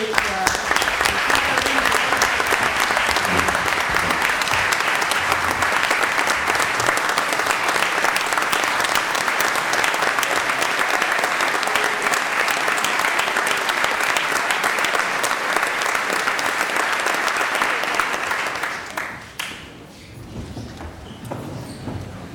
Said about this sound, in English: How about a final round of applause for our